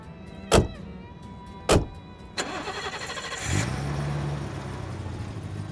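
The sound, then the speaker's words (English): Two sharp thuds like car doors shutting, then the engine of a big BMW cranks and catches, settling into a steady hum as it pulls away from a station car park. No one speaks. “It was a big BMW. She was a very fast driver.”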